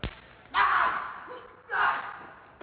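Two loud, sharp slap sound effects land about a second apart, each a crisp smack followed by a short, fading ring-out.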